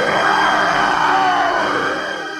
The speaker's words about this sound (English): When they got there, they went into the palace's huge hall. Then they heard the beast's loud roar.